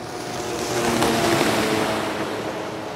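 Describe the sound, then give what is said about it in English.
A boat engine drones steadily over rushing water on a mountain lake, a continuous motor hum mixed with splashing wash and wind that swells slightly mid-way, with no voices. “There they swooped around the peaks and dropped down by a mountain lake to test the boat mode that turned the wheels into skis and the jetpack into a boat engine.”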